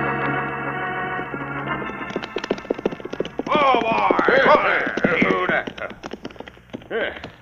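horse hooves galloping

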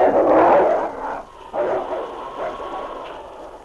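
wolf pack growling angrily

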